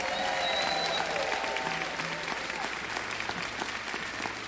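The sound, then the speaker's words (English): A crowd applauds the Cultural Council steadily for several seconds, a dense wash of clapping hands at moderate volume, with faint tonal sounds briefly audible in the background. “Can we have a round of applause for the Cultural Council?”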